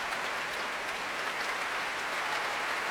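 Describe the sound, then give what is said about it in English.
Steady, dense applause from a large concert audience as conductor Colin Davis returns and bows to his orchestra players, a continuous wash of many hands clapping at an even, moderately loud level with no voices on top. “Again, trying to deflect the applause by turning towards his players and bowing to them.”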